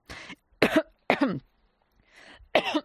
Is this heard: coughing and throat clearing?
yes